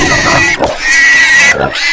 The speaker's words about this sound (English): Pig squealing.